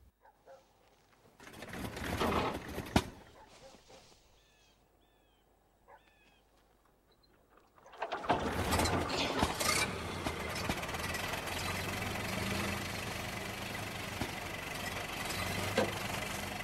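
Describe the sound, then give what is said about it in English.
An old car engine is hand-cranked with the handle at the front of the vehicle, turned several times over in a few rough bursts, goes quiet, then catches and roars into a loud, steady, rumbling run that continues to the end. “Toby rotates his arm, indicating to her that she needs to turn it several times over to get it started.”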